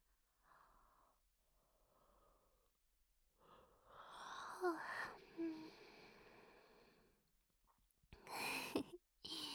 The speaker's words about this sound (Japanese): つられてあくびしちゃった。